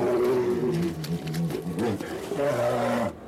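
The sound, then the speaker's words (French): Polar bears roar and growl in a loud, continuous, overlapping snarling exchange like a fight, with deep rumbling bellows rising and falling for a few seconds before stopping abruptly. “un couple d'ours polaires qui veulent essayer d'ouvrir leur couple”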